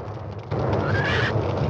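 A horse gives a short, shrill whinny that rises over a sudden loud rumbling din of explosions on a mountain, with dense low thudding noise filling the background throughout, as the horses are thrown into confusion.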